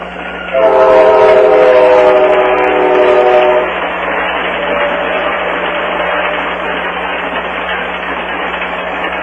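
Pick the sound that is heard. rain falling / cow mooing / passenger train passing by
passenger train passing by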